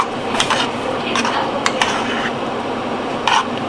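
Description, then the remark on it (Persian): A spoon stirs water inside a metal pot, making repeated scraping and clinking against the sides, with a few sharper knocks breaking the steady rhythm. “همش میزنم”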